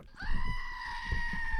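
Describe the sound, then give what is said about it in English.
A small battery-powered screaming goat novelty toy, its battery running out, lets out one long, loud, steady bleating scream that holds its pitch for over a second, with some low handling thumps underneath and no talking. “I got this little screaming goat, listeners.”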